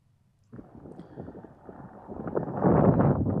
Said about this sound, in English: A little windy.